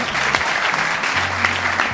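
A crowd claps steadily, a dense rush of many overlapping handclaps at a strong, even level, with a faint low hum of voices underneath.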